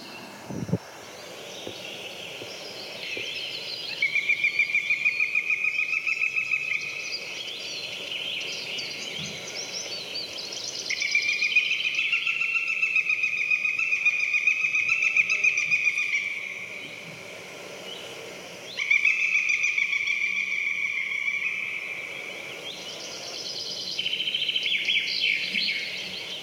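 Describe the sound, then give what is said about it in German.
A northern goshawk gives three loud bouts of harsh, rapid cackling, each lasting a few seconds, with quieter chaffinch chirps filling the gaps between them. “ich glaube, ich würde jetzt gerne einmal den Habicht spielen lassen, weil ich glaube, auch den Ruf hat man schon gehört”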